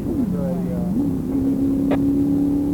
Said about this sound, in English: Cars headed your way.